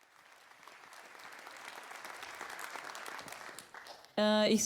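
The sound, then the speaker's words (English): A crowd applauds a speaker at the end of a talk, the clapping swelling and holding for several seconds before a loud, sustained harmonic tone cuts in at the end. “I think for this, please all, big round of applause.”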